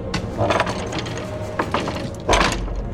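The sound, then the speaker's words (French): The heavy door of Zangdar's lair opens with bursts of ratcheting, clanking mechanical noise and creaking wood, swelling into a louder grinding rush near the end, with no voices. “J'ouvre la porte de l'antre de Zangdar.”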